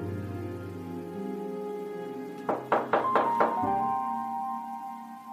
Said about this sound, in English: And here I am. I'm at the door from whence this strange knocking is emanating.